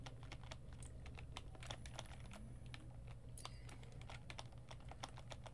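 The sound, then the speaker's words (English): Rapid, irregular clicking of keys on a computer keyboard while playing a tennis video game, with bursts of quick taps over a steady low hum in the background. “This is not easy. Not with a keyboard, it's not.”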